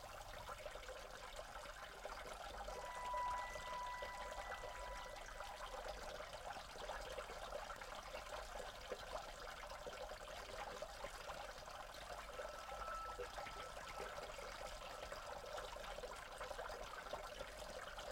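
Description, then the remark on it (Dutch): Rain falls steadily with water trickling, a soft continuous hiss that holds even for the whole stretch, with no voices. “Als u toch zou het misschien even kunnen regenen dus, hè? Kan het misschien even?”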